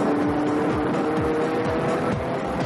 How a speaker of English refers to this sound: He's quickly got the measure of that car. He's blistering through the chicane. Well, that is very, very convincingly race car-like.